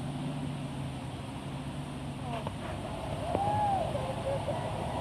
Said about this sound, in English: What you're seeing right now is the very first COVID-19 vaccine pulling out from the Kalamazoo Pfizer plant. Here goes the UPS truck. The unmarked police car is leading the way.